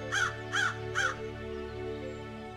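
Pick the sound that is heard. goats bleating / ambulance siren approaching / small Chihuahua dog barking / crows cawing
crows cawing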